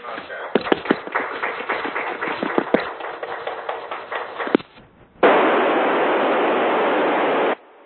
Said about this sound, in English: All right, students, I believe the ISS has gone over the horizon. Chris may still be able to hear us, so let's give him a big round of applause and thank you for a great contact.